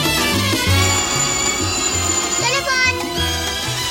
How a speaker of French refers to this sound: Et si on écoutait le répondeur, on a peut-être un message. Ah, le téléphone.